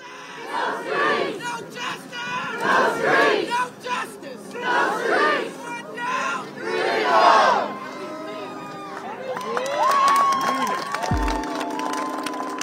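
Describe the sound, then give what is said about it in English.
A large crowd of hundreds of protesters at George Floyd Square screams and cheers with excitement after a guilty verdict, in loud, surging waves, with shouted voices rising and falling over several bursts before a steadier roar of excited cheering and scattered calls continues. “There were screams of excitement and tears of joy among the protesters.”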